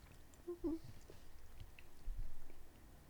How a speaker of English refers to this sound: Yeah. A lot of mouth sounds this episode. Yeah, I'm so sorry. This is so gross. I'm gonna edit this out. This episode's gonna be 4 minutes long for all the editing I'm gonna do. We'll just edit out all the chewing sounds.